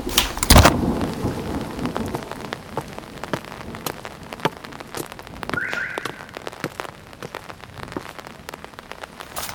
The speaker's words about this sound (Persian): بارون میاد، هوای بد خوبی. چترم رو باز کردم و رفتم سمت ماشین.